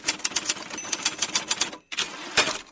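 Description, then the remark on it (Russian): Rapid clacking of typewriter keys in a steady, uneven rhythm, with a brief pause before the typing resumes and a sharper strike near the end. Clear, no voices. “А теперь о печатной машинке.”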